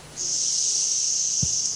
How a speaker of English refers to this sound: So when you're ready, just breathing in and we'll make the sound of ah.